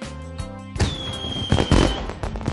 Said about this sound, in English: This is amazing! Yes, the fireworks are right in front of us. Words can't describe the beauty.